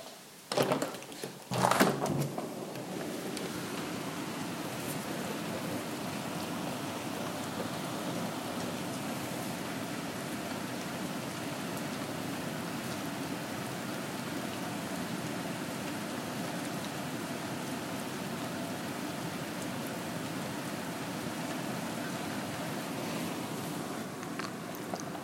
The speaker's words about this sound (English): I kind of want to record the rain and see what happens. I hope I can capture that.